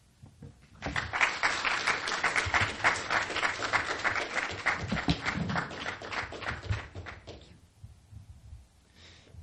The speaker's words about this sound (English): thank you, everyone, for that applause. I haven't really done anything to merit it yet.